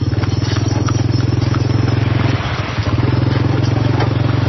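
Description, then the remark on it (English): A tuk-tuk, a covered cart pulled by a motor scooter, putters steadily, its rapid low chugging broken by a brief dip mid-way, with faint street noise around it. “in a covered cart pulled by a motor scooter. A tuk-tuk, named for its sound.”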